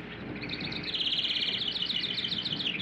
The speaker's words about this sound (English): The song of the house wren is bubbling.